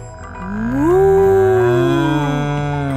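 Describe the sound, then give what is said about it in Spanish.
A person imitates a cow's moo during the cow yoga pose, one long, loud, drawn-out vocal call that rises, holds and slowly falls, clear with no other talking. “Y muge como la vaca.”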